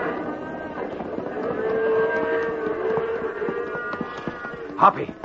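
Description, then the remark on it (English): A herd of cattle mooing, several long overlapping lows drawn out over a steady rumble of hoofbeats, with a short louder cry near the end. “Nothing will stop these critters now. Right. Let's clear off to the edge of the herd.”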